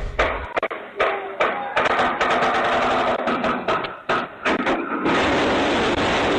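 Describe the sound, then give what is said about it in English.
A crane that was working on power lines in Southern California, contracted by Southern California Edison, topples and crashes onto two homes, captured by a neighbor's Ring doorbell camera: a loud, chaotic run of crunching, banging impacts and clattering debris, followed by a steady, dense roar of noise for the final seconds. “Here's what that crash sounded like.”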